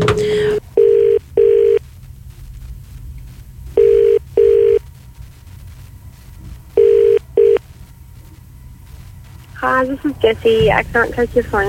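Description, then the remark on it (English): A phone call placed by the CFM radio breakfast show rings three times, each ring a pair of quick buzzing tones followed by a pause, steady and fairly loud. A voicemail greeting starts speaking right after the last ring. “Just keep calling until she bloody answers.”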